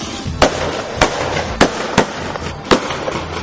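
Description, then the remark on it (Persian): Five sharp rifle shots fired into the air crack out at uneven intervals, loud, each a brief bang standing above a constant rushing background noise. “یه فکر دیگه به سرش زد، تفنگشو برداشت و شروع کرد به شلیک هوایی.”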